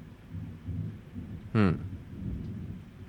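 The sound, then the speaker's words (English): Thunder from a thunderstorm with lightning: a low, steady rumble rolls underneath, broken about halfway through by one sharp, loud crack that quickly fades back into the rumble. “I mean, it sounds like I'm the one traveling. You are. Well, I am on an island, but you know what I mean. Like, with all the lightning and stuff.”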